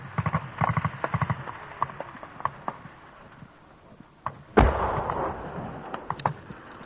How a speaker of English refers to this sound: You can hear the bullets now whizzing around us, ricocheting off the rocks. A heavy salvo of small arms fire, machine gun fire coming both down the hill and then up the hill in reply from the British troops ahead of me.